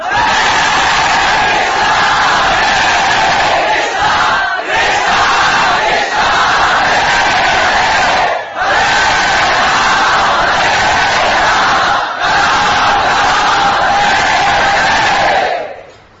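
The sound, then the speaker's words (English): A large crowd chants loudly in unison, repeating a sustained phrase about four times with brief breaths between each, the massed voices forming a dense, steady roar that cuts off at the end. “Let us chant with that spirit.”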